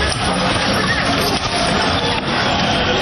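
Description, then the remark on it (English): A loud, steady roar of thousands of opposition protesters in the streets of the capital Pristina on Saturday, angered by an EU-brokered deal with Serbia, with many voices blending into dense, unbroken hubbub and no single speaker standing out over about three seconds. “Thousands of opposition protesters taking to the streets of the capital Pristina on Saturday to denounce the country's elected officials and set fire to government headquarters.”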